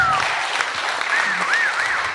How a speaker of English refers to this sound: Running the sound for this whole night, so let's applaud him as well.